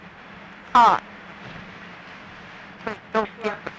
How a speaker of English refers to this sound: Hear that rain? This? It's really coming up strong.